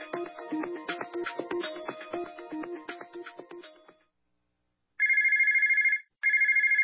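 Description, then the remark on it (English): A phone plays a short melodic ringtone, then after a brief pause gives two loud, trilling electronic telephone rings, clear with no voices. “If your phone's not ringing, chances are it's a problem with your marketing.”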